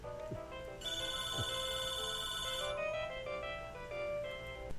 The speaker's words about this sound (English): Sorry about that. I had a phone ring.